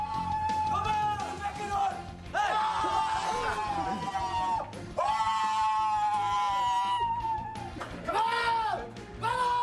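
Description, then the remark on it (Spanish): Ajax footballers shout and cheer together in their locker room in Turin after winning 1-2 against Juventus, a dense crowd of overlapping male voices yelling in loud, sustained bursts that rise and fall, echoing. “Estos eran los gritos de los futbolistas.”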